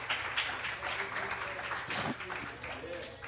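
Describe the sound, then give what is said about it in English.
An audience gives a hand of praise to the Lord one night, applauding in a steady, dense wash of clapping that holds for several seconds, with scattered voices calling out underneath. “Can you give him a hand of praise here tonight?”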